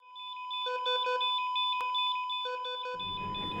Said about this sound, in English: I think we need that smoke detector working